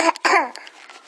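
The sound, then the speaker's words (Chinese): A child blows their nose: two short, forceful, breathy bursts through the nostrils, the second longer and louder, trailing off into quieter snuffles. “擤鼻涕，哎，好嘞。”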